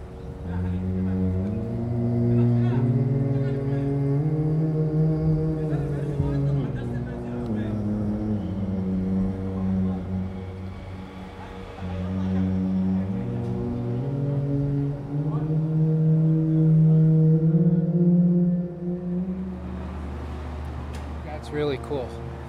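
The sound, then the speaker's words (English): A low, sustained recorded voice, sung in harmony with a drone and pitched down to mimic a cello, sliding slowly between notes over a steady droning tone, rich in harmonics and fairly loud throughout, with no words spoken. “I recorded my voice trying to harmonize with the drone, and then pitch it down so that it sounds like a cello, you know?”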